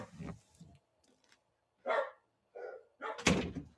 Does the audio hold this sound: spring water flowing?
no